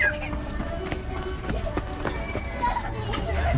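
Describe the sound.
Children's voices and playful shouts mingle in a busy, noisy crowd setting, with scattered footsteps and chatter continuing throughout at moderate volume.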